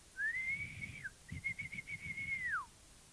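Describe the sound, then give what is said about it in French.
A night guard officer's whistle shrills in two long, steady blasts in a public garden at night, the second with a slight trilling warble before it drops off at the end, over a low background rumble. “L'agent se met à siffler.”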